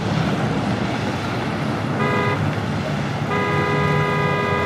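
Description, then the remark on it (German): Steady, dense morning street traffic rumble in Munich's city centre fills the scene, with a car horn honking twice, a short toot followed by a longer blast over the constant engine noise. “Und so hört sich das für Daniel morgens nach dem Aufstehen an. Er wohnt in der Münchner Innenstadt.”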